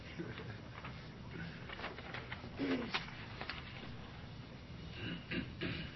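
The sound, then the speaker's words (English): A bird coos softly at its nest in a few low, throaty bursts, the clearest near the middle, over a steady bed of rustling, scratchy background noise. “That is the nest upon which the Satan bird sits, hatching his little eggs.”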